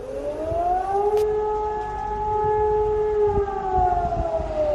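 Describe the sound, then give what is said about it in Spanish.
Germany's nationwide civil defense warning siren, sounded across the whole country at 11 a.m. for one minute as an announced drill, wails steadily, a loud sustained tone holding one pitch with layered harmonics, sounding alone without any talk over it. “Es la llamada alarma nacional que ha sonado durante un minuto en todos los rincones del país.”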